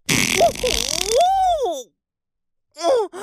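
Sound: loud fart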